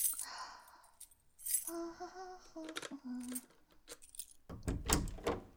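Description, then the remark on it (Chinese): Jingle of a bunch of keys, bright metallic rattling, followed by a key scraping into the lock of a locked bedroom door and a few solid clunks as the door is unlocked. No voices. “嘿，我为什么有你的钥匙？”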